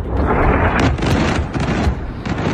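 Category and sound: impact, explosions from missile strikes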